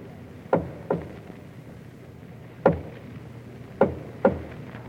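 Soft knocks on the wooden door of a palace nursery at 2 o'clock in the morning, coming in two pairs and a single rap between them, muted, with a faint room hum and no talking.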